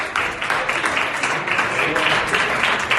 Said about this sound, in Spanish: Con ese aplauso y gestos de aprobación han recibido al presidente.